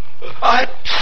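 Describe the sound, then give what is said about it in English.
A single loud sneeze: a short voiced intake swelling into a sharp, hissing burst of breath near the end. “Bless you.”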